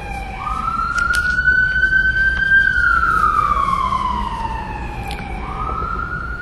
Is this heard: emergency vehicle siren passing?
yes